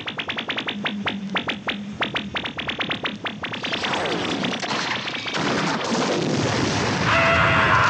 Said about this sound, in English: Total destruction! The explosion destroyed all the fighter pilots!